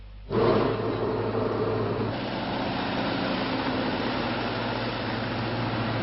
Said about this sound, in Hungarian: Traktor húzza a buszt, így viszik az embereket dolgozni a Baranya megyei Alsó-Mocsoládon.